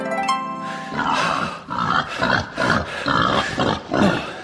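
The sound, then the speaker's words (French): A short tonal note gives way to a run of loud grunts and snorts from Henri, a pig that lives in a cellar, about five rough bursts in a steady rhythm, with no talking over them. “Alors ici, vous le savez, dans Pop Pop Pop, nous aimons les animaux, à l'image d'Henri, hein, mon cochon qui vit dans la cave et qui lui aussi aime le cinéma, souvenez-vous.”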